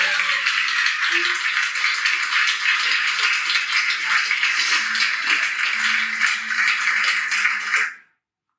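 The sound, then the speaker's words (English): An audience at a stage show applauds steadily, a dense wash of many hands clapping at once that stays loud and even for about eight seconds, then stops abruptly. “What was so awkward is you can hear everyone like clapping.”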